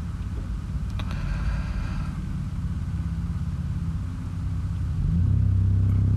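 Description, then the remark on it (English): A car engine rumbles at a low idle in a parking lot, then grows louder and steadier toward the end as the car pulls out of its parking space. No one speaks. “Yeah, I'm in a parking lot because I forgot to get this done today, so I'm going to wait for this car to pull out, and then we'll resume.”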